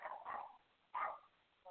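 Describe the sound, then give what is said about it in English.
A dog named Rocco barks wildly in short, sharp bursts: two quick barks, a pause, another loud bark, then the start of one more, with mid-pitched yelping tones. “Hold on, my dog is going psychotic.”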